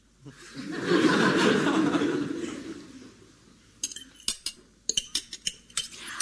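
A soft burst of chuckling fades out, then cutlery clinks and scrapes against plates in quick, irregular taps, fairly crisp, at a dinner.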